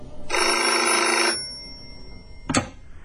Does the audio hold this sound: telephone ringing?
yes